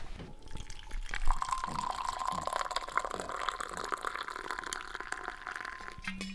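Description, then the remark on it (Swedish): Very hot coffee is poured steadily into cups, a continuous trickling splash whose pitch rises as each cup fills, with a brief pause and a small clink near the end. No one speaks. “Ja, ska vi ta kaffe nu? Ja, det låter bra. Vi gör det. Ja. Så vi inte somnar. Och så får jag hälla upp på par och så det hinner bli lite svalt.”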